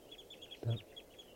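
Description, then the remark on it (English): A flock of birds in a park calls repeatedly with short, high chirps overlapping in a steady chatter, with one louder, lower squawk partway through. “Birds are calling here.”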